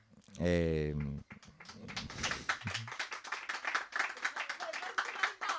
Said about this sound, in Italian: È bellissimo l'applauso partito dal VAR, è molto bello. Grazie davvero.